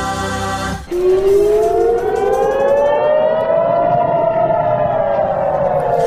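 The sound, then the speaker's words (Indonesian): Air raid sirens wail loudly in the city of Ashkelon, southern Israel, on a Tuesday night as the military intercepts a barrage of rockets fired from Gaza; the tone slides slowly upward and then eases down in a long sustained rise, with no voices over it. “Sementara itu, sirine meraung-raung di kota Ashkelon di Israel Selatan pada Selasa malam ketika militer mencegat rentetan serangan roket terbaru yang ditembakkan oleh militan Hamas dari jalur Gaza.”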